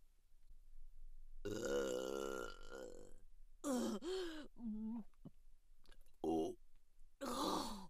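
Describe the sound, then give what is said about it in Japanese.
A long, loud, drawn-out burp up close, followed by a few shorter belching sounds with brief pauses between them. “またゲップが当ててしまう。出る、やばす。”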